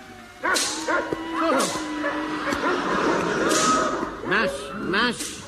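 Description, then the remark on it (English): A pack of sled dogs barks and yips excitedly, with many overlapping sharp calls coming in quick, uneven bursts, loud throughout. “Must keep the dogs at a gallop.”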